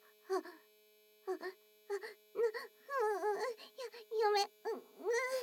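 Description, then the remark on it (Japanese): A small rotor vibrator held against the nipples buzzes in a steady, faint, unbroken hum throughout, running beneath a series of short whimpering and moaning vocal bursts that come and go. “ダメ、乳首にローターしゅごすぎ。”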